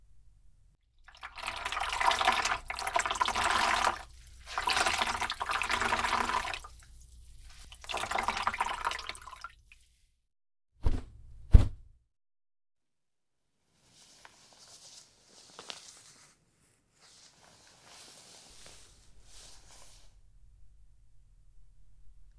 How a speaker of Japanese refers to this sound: お耳の泡、ホットタオルで拭いていきます。